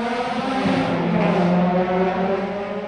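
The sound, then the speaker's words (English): A loud, high-revving open-wheel race car engine whines steadily during a city street race in Long Beach, California, its pitch stepping and sliding as gears shift, with no voices over it. “These drivers speed around tracks and through city streets like this race in Long Beach, California. Listen to those gears shift.”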